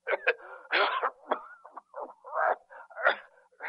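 man coughing

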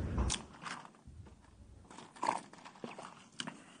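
sipping water

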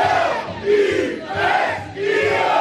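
bar crowd cheering

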